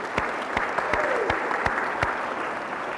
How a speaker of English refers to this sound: There's a lot of people here tonight. Thanks for coming. Why don't you give yourself a hand? That's wonderful.